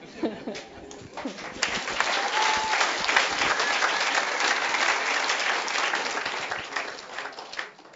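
An audience breaks into sustained applause, a dense wash of many hands clapping that swells quickly, holds steady for several seconds, then fades out at the end.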